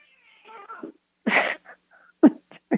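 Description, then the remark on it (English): A cat meows and yowls in several short, uneven bursts, fairly loud, with brief pauses between calls and no talking. “The cats chimed in.”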